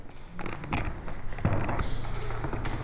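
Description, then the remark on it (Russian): Old wooden floorboards creak and groan underfoot in the sacristy of the Trinity-Sergius Lavra, Sergiev Posad Museum-Reserve, a series of irregular creaks and soft knocks, with no one speaking. “Скрип пола в ризнице Троице-Сергиевой лавры.”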